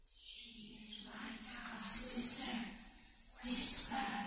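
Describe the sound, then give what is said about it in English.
A steady, breathy rustle of yew foliage swells and fades in soft hissing waves, with a low murmuring undertone running beneath it throughout. “The yews rustling.”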